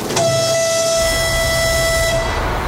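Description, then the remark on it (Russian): A single loud, sustained train whistle blasts at a steady high pitch for about two seconds, with rich harmonic overtones over a low rumbling background, as Vladimir Putin opens the railway part of the Kerch Bridge. “Свисток? Один? Да, один.”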